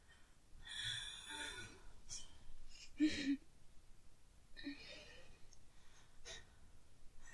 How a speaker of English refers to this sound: Her breathing becomes heavier and heavier as she watches her servant suck your cock deeper, deeper.